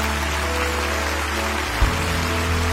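Steady, dense applause from a large crowd at Lakewood, for people standing all over the building, fills the whole stretch, a continuous hiss of many hands clapping over a low droning hum, with one brief thump near the end.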